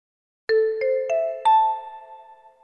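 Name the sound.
telephone ringing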